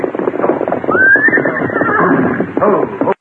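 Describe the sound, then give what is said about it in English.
A saddled horse lets out a loud, rising whinny that holds and trails off, set against a steady clatter of hooves and movement, with a second snort near the end. “go get their horses over there and bring them here.”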